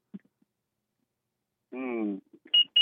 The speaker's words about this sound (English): I hear your alarm. It's my truck. You thought it was the fire alarm? Yeah. No, it's a truck. It's a work vehicle. I'm at work.